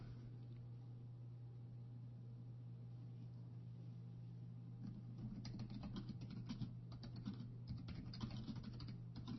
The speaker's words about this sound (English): I know, keyboard's loud, isn't it?